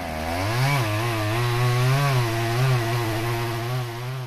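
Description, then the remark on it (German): A chainsaw felling trees in a protected tropical rainforest in Indonesia runs steadily for several seconds, its buzzing engine note rising and dipping slightly as it cuts through wood, loud and continuous with no voices. “In den geschützten tropischen Wäldern Indonesiens darf kein Baum gefällt werden, so steht es jedenfalls im Gesetz.”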